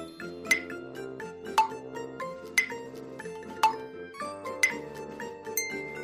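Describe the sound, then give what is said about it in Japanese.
An alarm clock rings with a bright, glassy chime that strikes about once a second over a steady, sustained melodic tone, with no voices. “正解は目覚まし時計の音でした。”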